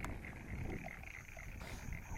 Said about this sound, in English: I'm standing next to a wide irrigation ditch, and perhaps you can hear in the background the frogs in the fields and in the irrigation channels.